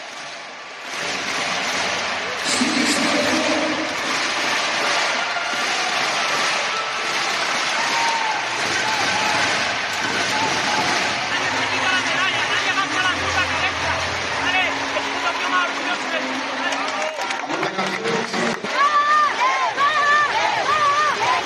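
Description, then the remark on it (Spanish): A large crowd in the Palacio de Deportes José María Martín Carpena roars and cheers continuously for the Costa del Sol Málaga women's team, with rhythmic group chanting of 'sí se puede' rising through the noise and scattered applause and whistles, loud and dense throughout. “Escuchen lo que se vivió, el sí se puede del público, lo que se vivió, las palabras de Suso Gallardo y ese grito de las Panteras.”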